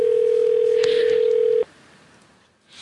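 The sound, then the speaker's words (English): A loud, steady telephone dial tone hums at one even pitch for about a second and a half, then cuts off abruptly, leaving quiet hiss behind. “Let's put a little dial tone just in case.”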